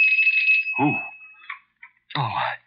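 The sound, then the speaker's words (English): A shrill doorbell rings in a long steady buzz for over a second, then sounds again in short bursts, with brief voice-like sounds breaking in between the rings. “The doorbell.”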